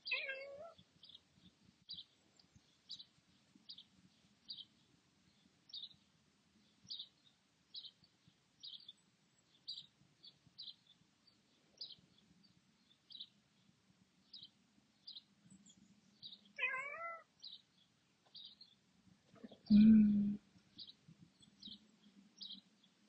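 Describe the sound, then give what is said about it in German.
A tomcat meows a couple of times, a drawn-out, falling cry at the start and again later, over a steady rhythm of high, faint chirps, with a brief loud thump near the end. “Die Augen, der Kater ist gekommen.”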